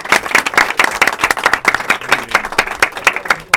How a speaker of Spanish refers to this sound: Un aplauso ahí para tus amigos también. Muy bien.